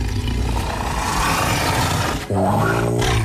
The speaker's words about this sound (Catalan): Això és un tigre, eh? Un felí d'aquests del sis llarg, eh?